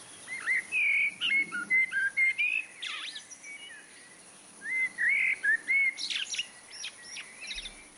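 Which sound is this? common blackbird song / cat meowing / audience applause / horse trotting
common blackbird song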